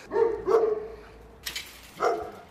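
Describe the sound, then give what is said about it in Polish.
A police patrol-and-tracking dog, Bachus, six years old, barks three times: two quick deep barks in succession, a short pause, then a final bark, with no voices. “Bachus patrolowo-tropiący. Doświadczony, mocny pies.”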